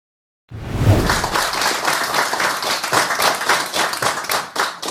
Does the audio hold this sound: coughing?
no